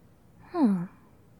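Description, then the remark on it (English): A single heavy, labored exhale from a patient breathing deeply while their breathing is checked as a vital sign, voiced into a low groaning sigh that slides downward in pitch and fades within a moment, with no talking around it. “Your breathing seems labored.”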